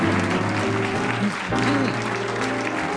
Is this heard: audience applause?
yes